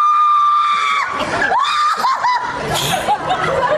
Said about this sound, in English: I should have warned you about the scream. The lady really got into the virtual reality